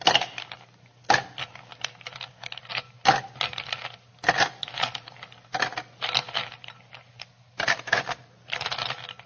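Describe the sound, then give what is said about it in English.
Ice cubes clatter into a glass in a series of sharp, bright clinks and rattles, arriving in bursts with short pauses between them and no voices over the sound. “Okay, now I would like you to fill that glass with ice cubes.”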